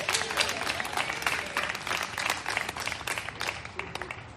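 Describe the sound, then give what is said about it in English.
An audience applauds with dense, steady clapping that stays loud and even for the full few seconds, many hands overlapping into a continuous patter. “Can we clap it?”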